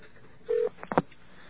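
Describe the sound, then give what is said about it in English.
A short burst of telephone dial tone cuts off, followed by three quick dialing clicks in rapid succession, thin and narrow-band as if heard down a phone line, with no talking. “Let's get a dial tone.”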